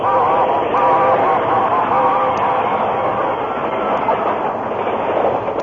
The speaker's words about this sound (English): A train raced by, enveloping the Lone Ranger, Tonto, and the unconscious man in a cloud of steam.